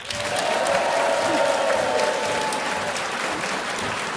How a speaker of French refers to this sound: Dernier jour du jeu à Danjoutin, dans cette maison pour tous, et merci de nous avoir si bien accueillis. Applaudissements et encouragements chaleureux pour nos candidats d'aujourd'hui